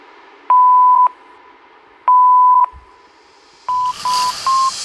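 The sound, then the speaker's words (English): Steady, pure electronic beep tones of a phone voicemail signal after the greeting: two long, even beeps spaced apart, then a run of shorter beeps over a burst of hissy static. “Please leave a message after the tone.”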